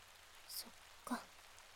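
heavy rain falling

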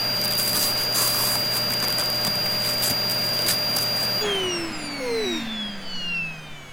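vacuum cleaner running

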